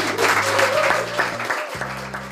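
A crowd claps steadily for a couple of seconds, a dense, even patter of many hands, with a low droning tone humming underneath and no voices.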